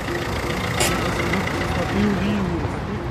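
Steady low rumble of car engines idling at a driving licence test centre, a continuous drone with faint background murmur and a brief hiss partway through.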